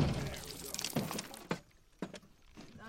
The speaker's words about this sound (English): One of the guys pulls out what's called a bang stick, essentially a gun that only fires when you push the barrel against the gator. He reaches out over the alligator and fires the bang stick into its skull.